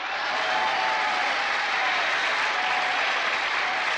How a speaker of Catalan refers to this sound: En el primer combat, dos candidats de molta fama, en Tao Pai Pai i en Ten Shin Han. Un aplaudiment per ells!